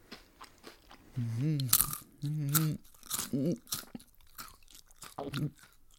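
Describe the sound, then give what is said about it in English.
Crisp munching of a crunchy ginger biscuit: sharp, irregular crunches repeat over several seconds, interleaved with a voice making drawn-out, wavering humming sounds of enjoyment. “Oh, how about this ginger biscuit? Should we hear what that sounds like? Let's munch together.”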